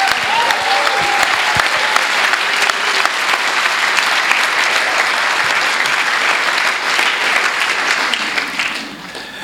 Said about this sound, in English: Let's give her a massive clap.